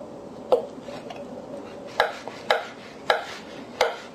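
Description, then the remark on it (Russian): Knife chopping carrots on a cutting board for an Olivier salad, five or six sharp, crisp strikes at an uneven pace, with no talking over them. “Режем морковку.”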